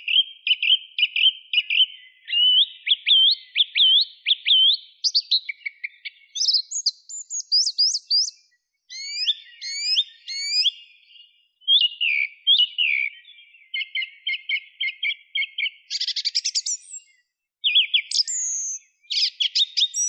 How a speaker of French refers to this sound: répétition de motifs simples, sifflés 3-4 fois, avec parfois des imitations de chants d'autres espèces, comme les fauvettes. Donc le chant de la grive musicienne est vraiment une symphonie musicale et elle mérite vraiment son nom de grive musicienne.